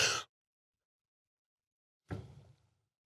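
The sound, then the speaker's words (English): Two harsh coughs with a pause between them: a short, sharp one, then about two seconds of silence before a second, slightly longer and rougher cough trails off. “Sorry, guys, the coughing has begun.”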